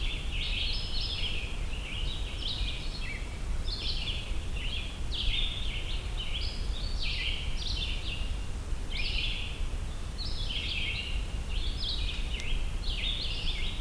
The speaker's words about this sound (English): Since there's so many vireos singing here